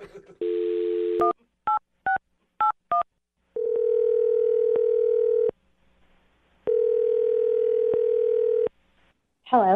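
A phone dial tone, then a quick series of touch-tone beeps as a number is dialed to call a woman, followed by two long ringback tones separated by silence, clear.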